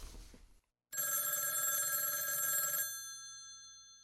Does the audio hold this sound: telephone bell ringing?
yes